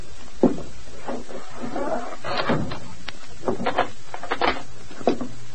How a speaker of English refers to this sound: Go on. Rap three times. That's a signal.